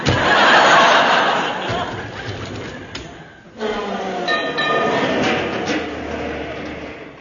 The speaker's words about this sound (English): it's a 49 tram. Then it's one of ours.